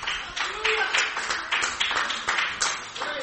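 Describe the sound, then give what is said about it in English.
A crowd claps hands together to the Lord during a worship service, a steady, dense burst of applause, fairly loud and sustained, with faint voices calling out underneath. “Would you clap your hands one more time to the Lord?”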